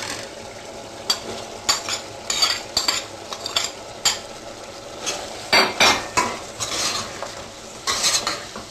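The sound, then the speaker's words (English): A utensil scrapes and stirs through mince and aubergine with coriander leaves in a pan for a curry, with repeated irregular scraping strokes over a steady low sizzle of frying. No one speaks. “As soon as the aubergine is slightly soft, we'll add the mince to it.”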